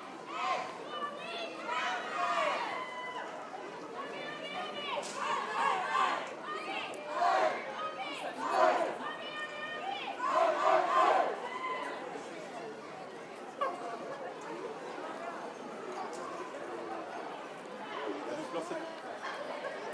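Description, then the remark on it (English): A crowd of people, including lots of children and some carrying balloons, walking down a road, with a steady hubbub of overlapping voices, including some higher-pitched calls, continuing at moderate loudness throughout with occasional brief swells. “So, I don't think I need to describe what was happening there with people walking down the road.”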